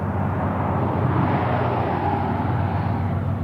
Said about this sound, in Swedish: Och som... framgår så är det en ganska kraftig trafik här, inte bara på vägen utan även på floden. Och just nu så arbetar det sig en av alla dessa oräkneliga promar